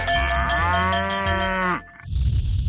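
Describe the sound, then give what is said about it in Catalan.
A dairy cow lets out one long, loud moo, a deep drawn-out bellow lasting almost two seconds that bends slightly in pitch, then breaks off into a brief rough rustling noise. “A l'Agenda del Pagès 2025, les vaques de llet.”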